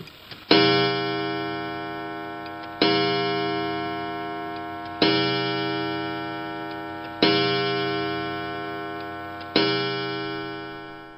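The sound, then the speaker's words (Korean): In a dramatization of Dr Jekyll and Mr Hyde, a clock strikes to announce midnight, five resonant bell-like chimes each ringing out and slowly fading before the next, evenly spaced about two seconds apart, loud, with no voices. “시계가 자정을 알리자 제클의 말대로 한 손님이 레니언을 찾아옵니다.”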